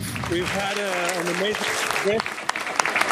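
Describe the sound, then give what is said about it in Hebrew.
An audience applauds steadily, a dense wash of many hands clapping, while a voice speaks over it for the first two seconds before the clapping carries on alone, at the official opening of a North American conference. “אפשר למחוא כפיים אם רוצים.”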